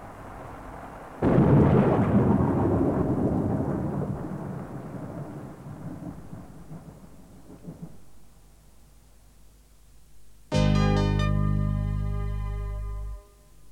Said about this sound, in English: It was 10 o'clock, and it was raining. I hate the rain.